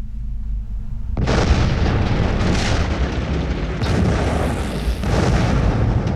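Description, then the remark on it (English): An underground gas explosion and blast of flame in the Banner Mine at 6:30 a.m.: a sudden deep explosion erupts after a second of low rumble, then a sustained roaring, rumbling blast that swells in waves and stays loud to the end, with no voices. “At 6:30 a.m., an explosion and blast of flame shook the Banner Mine.”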